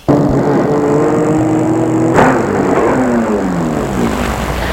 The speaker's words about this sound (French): La rue Sully n'est pas très longue et calme. Il arrête sa voiture devant un bel immeuble moderne de classe.